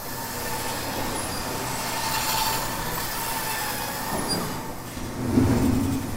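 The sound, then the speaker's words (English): Wooden gears and rollers of a large kinetic wooden printing machine sculpture in a building lobby in New Orleans, started by pressing a red button, turn steadily, giving a continuous mechanical rumble with faint creaks and a low clunk near the end. “And you press a red button that looks like a panic button by the door, and that slowly turns on the paper machine, and it's all wooden gears, and it slowly turns and turns and turns, and different rollers and gears turn”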